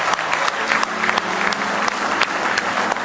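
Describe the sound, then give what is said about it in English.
An audience claps hands steadily for a man, a dense, continuous patter of many hands at a fairly loud level with faint murmuring underneath, no voice standing out. “Go ahead, give him a good hand clap tonight.”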